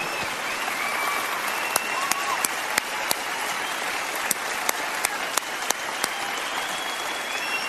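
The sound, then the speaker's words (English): A crowd applauds steadily, a dense wash of clapping with a handful of sharper, louder individual claps standing out now and then throughout, thanking Charlie Kirk for coming to New Mexico. “I'm just going to applaud you.”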